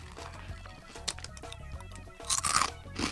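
Someone bites and chews a crispy kaki-no-tane rice cracker snack with a thick tempura-style batter coating and no squid in it, giving bursts of dry, crackly crunching that grow louder toward the end, over a low steady hum.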